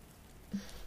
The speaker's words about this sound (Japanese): 雨止まないわね。どんどん強くなっているみたい。